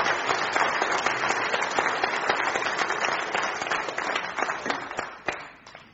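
A crowd applauds steadily, dense clapping that holds strong for several seconds before thinning into scattered individual claps at the end.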